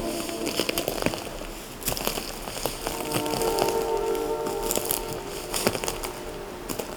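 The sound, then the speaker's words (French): Footsteps crunch over twigs and dry litter on a forest floor, a loose series of crackling, snapping steps over the steady watery hiss of a stream below, with a few faint high tones drifting through the middle. “de brindilles, la forêt crisse, crisse sous vos pas.”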